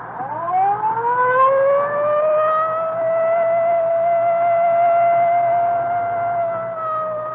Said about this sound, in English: Well, I better use the light and siren, Frank. We may not have much time.